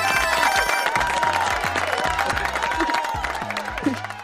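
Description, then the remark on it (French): An audience applauds and cheers loudly and steadily for about four seconds for the Bleus team, a dense wash of clapping over a rhythmic, bass-heavy musical backing. “On peut applaudir l'équipe des Bleus.”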